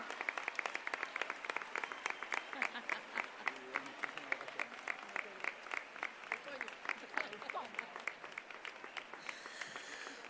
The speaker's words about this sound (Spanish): Fuerte ese aplauso para esta pregonera de lujo.